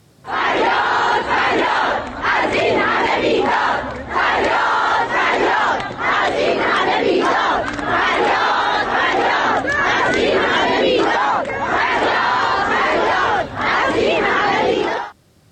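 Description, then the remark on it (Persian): A large crowd of teachers at a protest rally in front of the city's Education Department office in Isfahan chants in loud, rhythmic unison, repeating a short slogan in steady bursts with brief pauses between phrases, sustained for the whole stretch. “اما گروهی از فرهنگیان اصفهان هم مقابل اداره آموزش و پرورش این شهر تجمع اعتراضی برپا کردند.”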